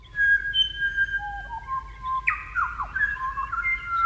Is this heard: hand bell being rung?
no